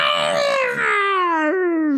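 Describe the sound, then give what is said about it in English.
A person imitates a mighty roar with a single long, loud, strained howl that slides steadily downward in pitch for about two seconds, with a brief catch near the end. “She lets out a mighty roar. What does that sound like?”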